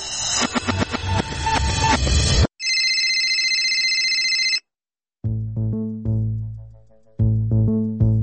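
A mobile phone ringtone for an incoming call plays loud, with no talking: a bright, busy melodic jingle, then a sustained chiming tone, a short pause, and a deeper bassy tune that repeats.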